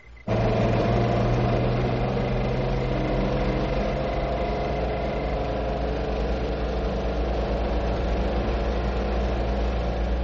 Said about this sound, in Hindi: हमारा ट्रक वापस क्यों आ रहा है?